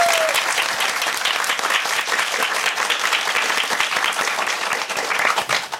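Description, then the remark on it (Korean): Sustained applause from an audience fills the whole stretch, a dense, steady wash of many hands clapping at a loud, even level without letting up, after a tenor, soprano and pianist perform the Brindisi drinking song from Act 1 of Verdi's opera La Traviata. “다시 한번 박수 주세요”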